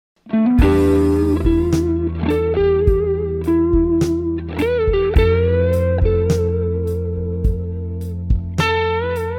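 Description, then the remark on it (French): A dry electric guitar solo in A major in the style of a guitarist, played without heavy reverb, with sustained, bending lead notes over a steady low backing and regular drum hits. It is loud and up front, with no talking. “En ce qui concerne le son, là évidemment j'ai pas la grosse réverb, si vous avez une Lexicon avec 7 secondes de réverb derrière, ce sera très bien.”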